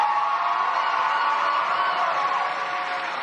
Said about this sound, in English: They're all gathered and cheering. She's at a Bernie event.